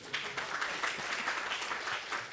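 A brief burst of audience applause, many hands clapping in a dense, steady patter at moderate volume for a couple of seconds, with no voices over it.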